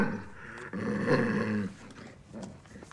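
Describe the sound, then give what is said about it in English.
A blind rabbi's guide dog, Gertie, snarls once, a rough, throaty growl lasting about a second, moderately loud, followed by quieter rumbling and background murmur. “His guide dog snarls.”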